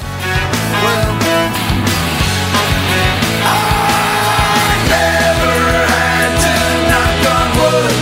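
A loud, driving rock song with dense guitars and drums, where a long, sustained high-pitched vocal scream rises above the band midway through, setting up the chorus just before the music surges ahead.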